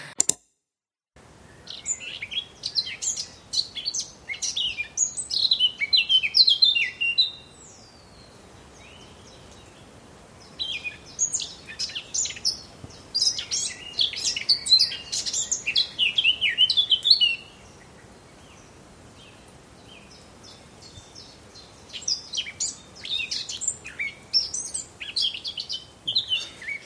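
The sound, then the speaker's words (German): A songbird sings from dense bushes in bursts of rapid, high chirping phrases, pausing briefly between song bouts, with faint rustling and low background noise underneath and no voices. “Aber wenn man sich jetzt ganz lang vor so ein Gebüsch stellt, dann manchmal singt sie dann, also zumindest im Innenhof, auch mal am Rand vom Gebüsch und man hat dann doch mal ein Volkserlebnis.”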